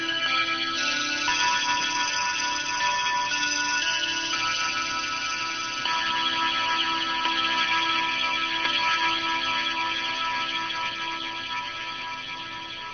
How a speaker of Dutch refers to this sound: Het klokje van 3 uur.